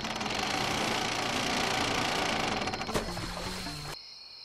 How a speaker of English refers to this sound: What it is again? Only my sister drawing water from the well.